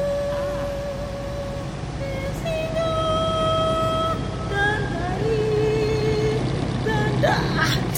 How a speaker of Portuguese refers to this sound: É barulho dos barcos. Incomoda muito.